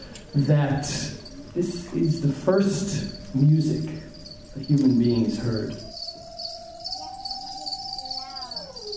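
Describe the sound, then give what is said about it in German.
A medium-sized population of crickets, kept as live food for lizards, chirps in a steady, high-pitched trill that runs the whole time while an audience listens, with people talking over it for the first several seconds and a sustained lower tone underneath. “Andächtig hört das Publikum auf das Gezirpe, wie die ersten Menschen vor Tausenden von Jahren.”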